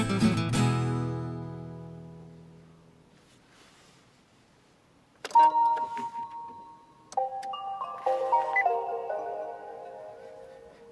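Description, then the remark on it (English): A car's electronic greeting chime as the speaker's car says hello: a struck tone rings out and fades, then after a pause a short melodic run of bright, clear electronic tones plays, with no talking. “What was that? That was my car saying hello.”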